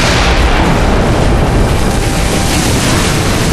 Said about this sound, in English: The fort's cannons blasted the night. The volley of shells plowed into the sea well ahead and behind them, detonating with stunning force and sending plumes of smoke and water and red-hot shrapnel skyward.